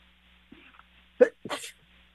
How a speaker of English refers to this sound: Excuse me, I still have to sneeze once in a while.